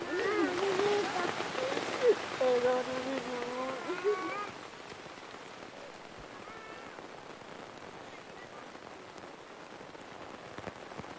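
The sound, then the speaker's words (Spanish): Heavy storm rain pours in a steady, dense hiss throughout, with a woman's wavering, sobbing voice rising over it during the first few seconds before the downpour continues alone. “La veía llorar duro, pero la tormenta ahogaba sus sollozos.”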